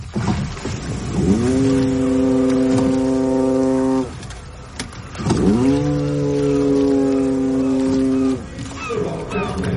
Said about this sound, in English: What about those noises at the beginning before the singing started? Braying. Foghorn. Foghorn it was.